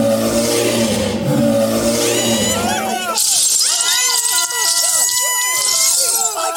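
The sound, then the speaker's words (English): A man standing 7 foot 2 imitates a bear with a loud, deep, rumbling roar lasting about three seconds, then a crowd bursts into high-pitched screams, cheers and applause. “And he does a pretty good impersonation of a bear.”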